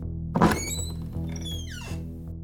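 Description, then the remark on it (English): A door opens: a sharp latch clunk, then a drawn-out creaking squeal of hinges that rises and falls, with a steady low hum underneath. “Third pig opens the door.”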